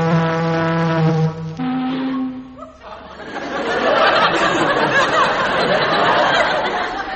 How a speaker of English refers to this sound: Sound the siren, Chief.